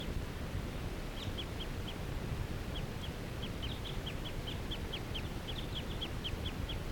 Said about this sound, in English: This is a wild bird. It's still in the lodge full time. Not interacting with that other flock. This is that same bird that I was recording a minute ago. And that was lone and in the fir.